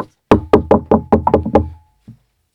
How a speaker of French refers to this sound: La porte était bizarre. Elle avait l'air toute flasque et visqueuse. Mike cogna à la porte.